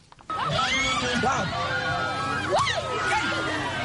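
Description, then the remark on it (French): A crowd of the Peul community erupts in loud, shrill cries of joy at a flogging rite, celebrating a young man who took the whip lashes without flinching as his passage to adulthood; many voices whoop and ululate over one another in a dense, continuous din after a brief quiet opening. “Ces cris sont des manifestations de joie devant la bravo d'un jeune homme qui a reçu sans broncher les coups de fouet, signe de son passage à l'âge adulte.”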